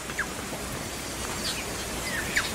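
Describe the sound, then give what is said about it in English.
Tui birdsong from an indigenous New Zealand songbird, black with a white cotton ball-like tuft on its throat: a handful of short, bright whistled notes and chirps scattered across a few seconds, fairly faint and set against a steady rain-like hiss, with no talking. “And some of the ones that we are most intimate with here are the tuis, which is an indigenous New Zealand songbird.”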